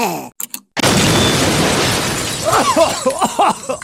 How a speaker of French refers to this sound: Qu'est-ce que c'est que ça? Un bouton. Je te vois venir. On fait péter, ou bien? Un peu, ouais.